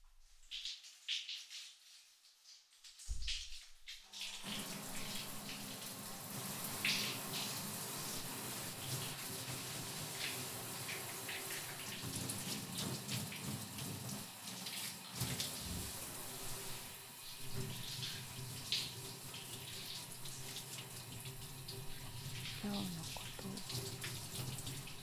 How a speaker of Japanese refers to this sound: もう一回シャワーだ。